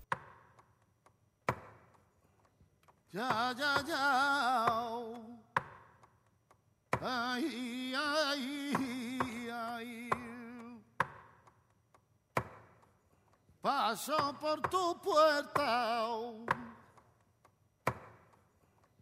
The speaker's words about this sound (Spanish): Si te parece, escuchamos de corrido La Soleá por Bulerías y Las Cantiñas.